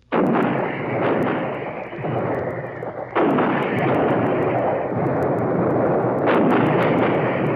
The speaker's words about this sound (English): For weeks, the long rows of 155s, long toms, had been in position. Their ammunition dumps well stocked, their breaches well oiled. These precision weapons laid down the most concentrated heavy artillery fire of this war.